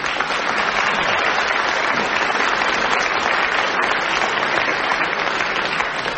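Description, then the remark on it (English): An audience at the show My Music claps steadily and loudly, a dense wash of many hands that holds at an even level throughout with no pauses or voices breaking through. “It's still a fact that audiences will applaud themselves more loudly than anybody else.”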